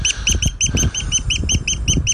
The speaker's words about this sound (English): Oh dear. Tweet, tweet, tweet.